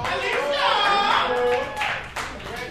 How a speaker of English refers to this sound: Our last poet of the night. Y'all put your hands together